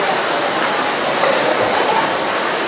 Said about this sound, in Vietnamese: Chúng ta thấy một cái cảnh mà ngồi một dinh lễ mà dưới mưa này nó tuyệt vời lắm. Thấy lòng thương. Thấy như vậy thì Chúa phải. Thấy chúng con đi lễ mà mưa ướt át như vậy